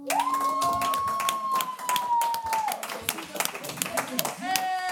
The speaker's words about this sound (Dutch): Ik geef graag het woord. Geef zo'n groot applaus.